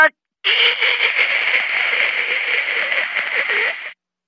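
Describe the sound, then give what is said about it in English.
A burst of harsh, steady static, white noise from a screen, hisses for about three and a half seconds after a brief click, then cuts off abruptly; it is loud, with no voices. “The screen turned to white noise.”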